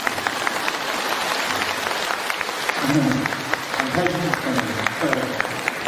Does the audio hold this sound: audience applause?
yes